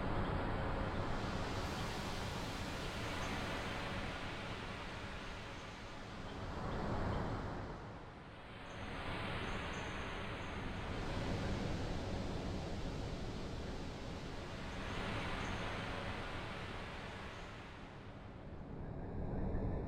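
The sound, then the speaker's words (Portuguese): Steady roar of ocean waves, with broad washes of surf swelling and receding in slow surges every several seconds, fairly loud and continuous with no voices. “Para essa experienciação, convidamos nossas amigas baleias, o mar e as séries de frequências Fibonacci.”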